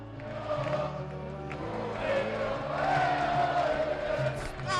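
A large crowd chants and shouts together in a dense, sustained roar, voices rising and falling in a rhythmic cheer with horns or whistles cutting through; crowd in Plaza de Colón, Spain, chanting "¡Campeón!" to celebrate Spain winning the Eurocopa.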